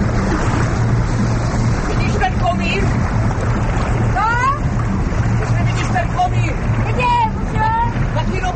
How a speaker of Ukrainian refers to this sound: Від невеликої театральної студії на березі Вдави річкою вирушили три катери із глядачами і акторами.